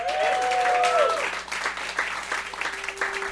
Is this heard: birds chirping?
no